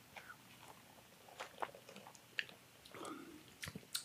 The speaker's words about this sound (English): Sips? I think so. Bottoms up. Let's do it.